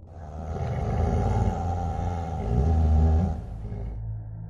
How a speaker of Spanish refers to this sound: Antes de poder reaccionar, y como si algo se hubiese percatado de que lo estaba viendo, se escuchó el gruñido de un gran animal.